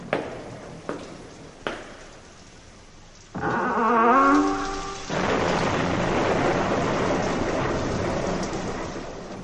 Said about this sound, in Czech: Jedne večeri dođe do strašne nepogode. Grmelo i sevalo sa svih strana. Kiša je lila kao iz kabla, strahota jedna.